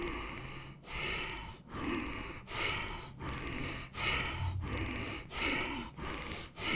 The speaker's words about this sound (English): Make your breath as full as possible in inhale and exhalation, as long as you can. Now you allow your natural body movement to support your breath. Let's speed up the breathing minute by minute.